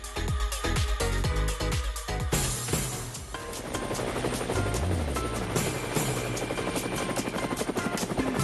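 A helicopter roars, its rotor thumping in a steady rapid rhythm over a dense engine whine that stays loud and continuous throughout, with no voices.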